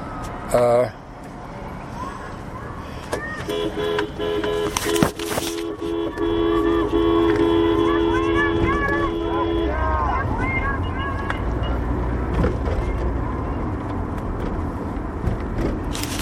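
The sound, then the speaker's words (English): A car horn blares in a long sustained honk from a sticker-covered car driving past a student demonstration on Bay Street, over rumbling traffic and wind buffeting the microphone, with shouting voices rising in the background. “And all that honking was me supporting the students as I careened past in my sticker mobile.”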